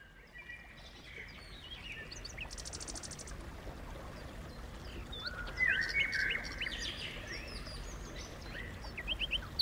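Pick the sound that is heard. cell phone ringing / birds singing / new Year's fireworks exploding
birds singing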